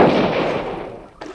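rifle shot

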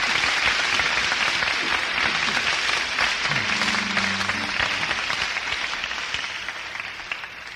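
loud audience applause

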